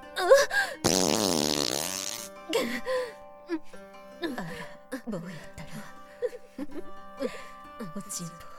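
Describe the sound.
A loud, drawn-out fart with a buzzy, sputtering rasp lasts over a second near the start, let out by a middle-aged woman in front of a crowd of villagers. A woman's breathy voice speaks just before and continues afterward.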